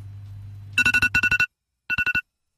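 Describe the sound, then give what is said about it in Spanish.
An alarm clock rings with loud, rapid electronic beeps in quick bursts of four, a brief pause, then another burst. A low hum fades out just before the ringing starts. “Bueno, el despertador encima.”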